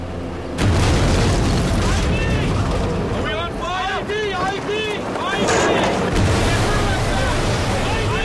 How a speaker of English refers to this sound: When something like this happens, an explosion in the distance, I imagine a soldier's instinct is to immediately pick up the gun.